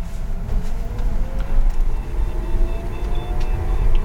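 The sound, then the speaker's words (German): An electric car hums along while driving, heard with the car window rolled down: a thin tonal whine slowly rising in pitch above a steady low rumble of road noise, with no voices. “Im Gegensatz zum Rauschen eines Benziners ist es hier eher so ein Summen oder Säuseln.”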